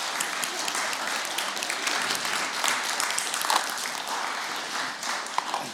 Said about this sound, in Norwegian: Men applaus til henne først da.